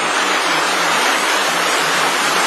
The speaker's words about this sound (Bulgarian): Дъжд заваля, господин Ланков. Голям дъжд, мокри дрехите.